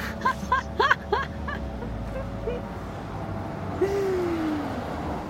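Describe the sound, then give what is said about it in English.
A steady wash of street traffic rumbles throughout, with brief high chirping calls early on and a single drawn-out horn-like tone near the end. “Yeah, get rid of all this traffic for you.”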